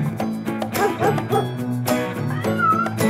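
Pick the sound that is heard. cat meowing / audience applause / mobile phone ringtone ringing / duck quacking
cat meowing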